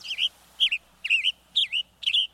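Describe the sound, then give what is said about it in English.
A Western Tanager sings five short, burry, slightly hoarse phrases, each rising and falling, delivered at a steady, evenly spaced rhythm. The phrases are fairly loud and high-pitched, with no voices. “Head over to our website and catch more on the Western Tanager, birdnote.org.”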